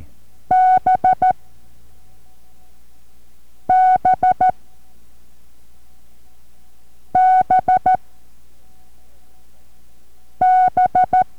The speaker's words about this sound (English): And this letter is going to be the letter B. Da-di-di-dit, the letter B.